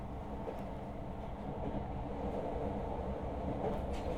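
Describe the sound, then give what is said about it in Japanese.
A train rumbles and rattles steadily along the tracks as it sways through a sharp curve, a dense low roar with faint metallic clatter throughout, heard from inside the carriage with no voices. “今のすごいカーブだったね。違う、私から無理にくっついたんじゃないよ。電車が揺れたから私のせいじゃないもん。”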